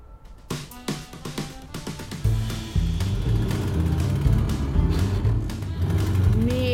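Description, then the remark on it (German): A car engine sputters with a few uneven pops, then catches and roars into a loud, steady low rumble that keeps revving. “Gif Gas. Das Auto verreckt uns noch.”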